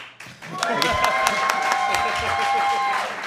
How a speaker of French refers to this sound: Et on peut même les entendre, là, si on fait. Je vais le faire comme mon Eric Salvaille de l'époque, là. Hey, deux, on applaudit, c'est-tu que c'est drôle?